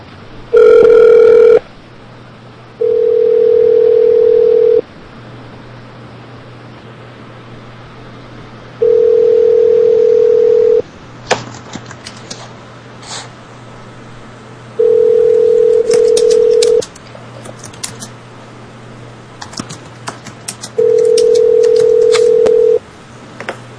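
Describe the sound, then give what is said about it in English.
A telephone ringback tone purrs in steady two-second bursts separated by longer pauses, repeating five times, preceded by a quick flurry of dialing beeps. Low line hiss fills the gaps. “Is it ringing?”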